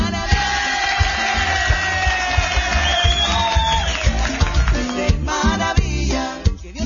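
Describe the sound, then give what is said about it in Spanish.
A crowd claps and cheers for a person's birthday in a dense, steady roar for several seconds, with shrill whistles gliding over the noise and a few brief whoops breaking through near the end. “También un aplauso también al cumpleañero, hombre.”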